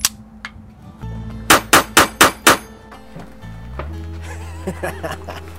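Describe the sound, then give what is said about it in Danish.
Five loud, sharp pistol shots fire in quick, even succession at a shooting range, with a steady low hum underneath and faint background activity afterward. “Altså, kan du vise mig det der? Vil jeg skyde? Ja.”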